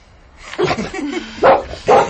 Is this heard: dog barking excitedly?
yes